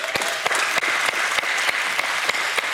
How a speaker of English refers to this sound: give him some claps, y'all.